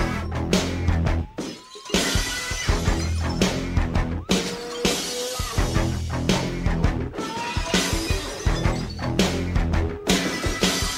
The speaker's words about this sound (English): If you're a WWE fan, that is everything. The glass shattering, I mean, just him coming out, drinking the beers after winning a match or after losing a match.